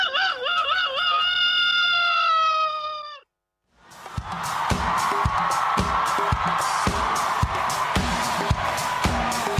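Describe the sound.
A voice imitates a chicken's clucking as a homemade doorbell, with wavering, pitched calls for about three seconds. After a short silence, a dense, noisy stretch follows with steady rhythmic thumps and crowd-like commotion.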